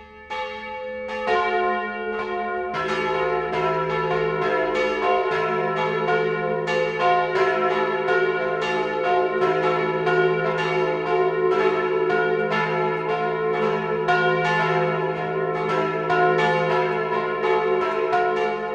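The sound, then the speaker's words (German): Several church bells of a church in Feldkirchen, Straubing-Bogen district, Lower Bavaria, Germany, ring the noon chime at 12 o'clock in a steady, full peal, their overlapping strokes sustained and loud with rich, lingering tones and no voices present. “Das Mittagsläuten kommt heute aus Feldkirchen im niederbayerischen Landkreis Straubing-Bogen.”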